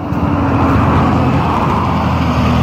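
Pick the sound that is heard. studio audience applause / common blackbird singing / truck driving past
truck driving past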